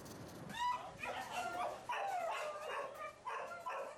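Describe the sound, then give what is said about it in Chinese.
Several dogs abandoned by their owners bark and yip in a steady, overlapping chorus at an animal shelter in Taiwan, with high whimpers mixed in. The noise continues throughout, with no talking. “这些狗被主人遗弃，它们已经在收容所数周了，没人想收养它们。”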